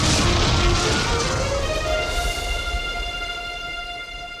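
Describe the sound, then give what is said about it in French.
A huge crack bursts out as a big circus tent collapses after an elephant crashes into the main pole, a loud crash followed by a long rumbling roar and a strained, rising groan that slowly fades. “Un énorme craquement retentit et le grand chapiteau s'effondre.”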